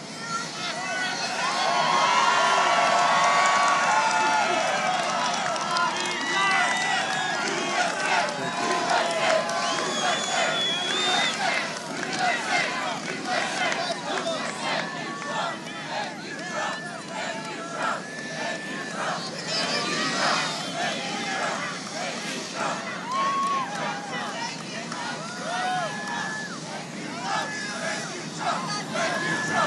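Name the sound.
small crowd cheering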